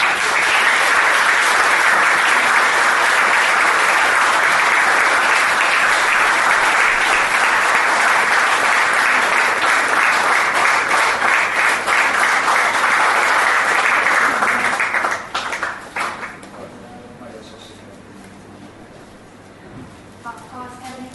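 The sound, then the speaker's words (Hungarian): Sustained loud applause from an audience at an improvisation stage as a special prize is awarded, a dense wash of clapping that holds steady for about fifteen seconds, then thins out and fades into quieter background murmur. “Külön díjban részesült egy nagy tapsot Dezső Katalin.”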